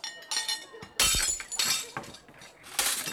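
Plates break in a string of sharp crashes, each smash followed by bright, tinkling shards scattering; several loud impacts come in uneven bursts over a few seconds, with no talking.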